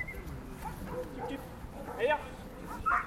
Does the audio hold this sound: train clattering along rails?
no